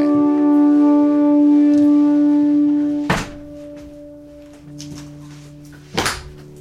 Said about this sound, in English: Will you close those doors?